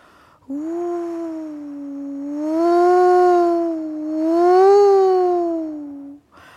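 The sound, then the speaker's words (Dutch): A long, rising and falling howl of wind, voiced by a person, swelling twice in loudness over about six seconds with a steady, hooting tone and no words. “Maar Jan de Wind begon te waaien.”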